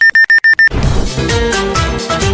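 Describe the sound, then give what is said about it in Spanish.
An alarm clock beeps rapidly, five loud, sharp electronic pulses in quick succession, then cuts off as full, busy music takes over. “Mañanas con energía, café y una radio que suena mejor que tu despertador.”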